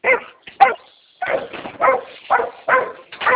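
dog barking

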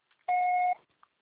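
voicemail beep

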